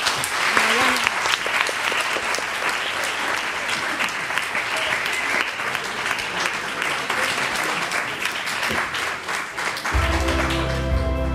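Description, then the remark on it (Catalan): Sustained audience applause, a dense crackle of many hands clapping steadily for about ten seconds, with a faint murmur of voices underneath, before a musical tone enters at the very end. “I ara sí, si voleu, podeu fer un aplaudiment.”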